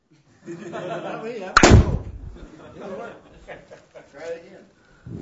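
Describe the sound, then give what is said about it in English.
A balloon bursts with one sharp, loud pop partway through, cutting across people talking before and after it. “But if you know how to do it, you actually can take that and you can stick it through that balloon without popping it.”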